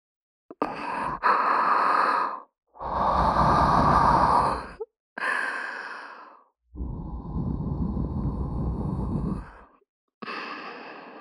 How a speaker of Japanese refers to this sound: そして、これ、吐息。